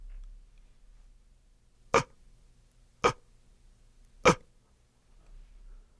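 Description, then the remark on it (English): Three short, light inhaled inward coughs made in the throat with the epiglottis, like small throat clicks, evenly spaced about a second apart, fairly soft against a quiet low hum, with no talking; a demonstration of a throat vibrato technique. “Now try to do it in.”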